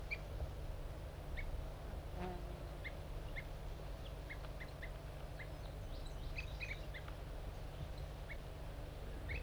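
Two captive crossbills, put together in a forced aggressive encounter, fight and give short, sharp chirping calls in irregular bursts, some doubled or clustered, over a steady low rumbling background noise. No one speaks.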